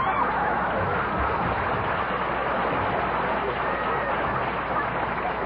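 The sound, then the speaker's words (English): A crowd applauds steadily for about five seconds, a dense, even wash of clapping that holds at the same loudness throughout without a break. “Don't applaud, please.”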